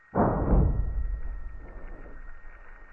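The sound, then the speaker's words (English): A seismic shock picked up by an accelerometer on the surface: a sudden loud, low burst that decays into a long rumble, followed by three faint echoing pulses. No one speaks. “The first one we just listened to was on the surface.”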